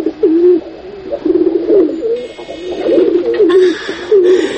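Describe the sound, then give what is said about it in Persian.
A white pigeon with a broken leg, sitting in a corner in Kabul, coos repeatedly, a series of soft, throaty rolling calls in steady succession, with faint background noise and a few chirps. “سلام کبوتر سپید.”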